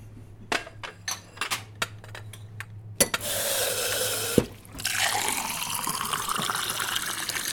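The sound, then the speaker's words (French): A few light glassy clinks and taps, then a tap gushes on and water runs steadily as a glass is rinsed beneath it in a small bar shop at 17 Rue Riquet, fairly loud, with the low hum of a fridge in the background. “Rinçage du verre.”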